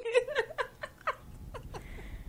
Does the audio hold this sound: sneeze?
no